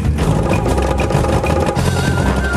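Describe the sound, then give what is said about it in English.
An old Escort car engine runs loud, its rough, uneven chugging stuttering and dipping as it misfires, not giving enough power to drive a hydraulic pump, with no voices over it. “They're being let down by that old Escort engine. It's misfiring and not giving enough power to drive that hydraulic pump.”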